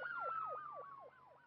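A faraway ambulance siren yelps in quick, repeating rising-and-falling sweeps, fairly faint and continuous, with no voices present.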